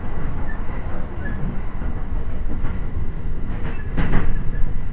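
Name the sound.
train running on rails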